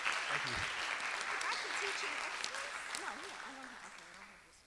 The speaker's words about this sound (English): So a big thanks and a round of applause to the Student Association members. Thank you.